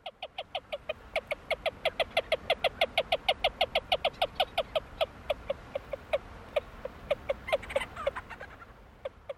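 A whiskered screech owl calls alone in a long run of short, clear hoots, about four per second at a steady mid-high pitch, loud and even before loosening into spaced notes.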